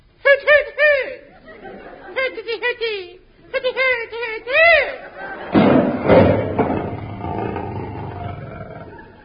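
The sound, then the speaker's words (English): A Boy Scout's voice imitates a night owl's cry in three quick bursts of wavering, sliding hoots, then a tiger's loud, rough roar rumbles in and fades out, in East Finchley. “If I give the cry of the night owl, perhaps the patrol leader will hear me.”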